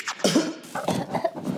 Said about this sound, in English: I really like the cough at the end of the news thing.